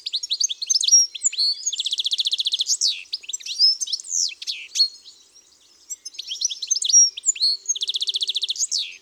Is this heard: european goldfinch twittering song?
yes